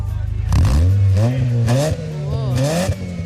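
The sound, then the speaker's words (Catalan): A car likened to the car from Fast and Furious revs hard, its loud droning pitch climbing and wavering through a few quick surges of throttle before settling, with no voices over it. “El cotxe és inconfusible, no te confonguis de cotxe. Men, dona-li gas.”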